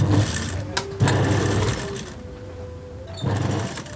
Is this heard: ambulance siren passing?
no